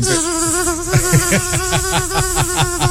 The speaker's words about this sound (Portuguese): Esse aparelho, Milene, tem pra fazer barulho. Não quer deixar a vizinha dormir? Você aperta esse barulho. Tem a abelha malvada